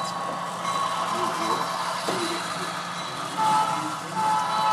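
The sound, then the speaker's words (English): A model train on a club's model railroad rumbles steadily past amid busy background noise, then sounds a sustained electronic horn tone that repeats near the end; the horn is a remote-controlled sound feature. “We break for a train going by, which blows its horn at us.”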